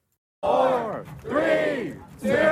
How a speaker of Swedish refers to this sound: Och när han käkade sin sista 40:e då kyckling, så vi kan väl höra, det var ganska mycket folk på plats då där i Philadelphia, ute på piren.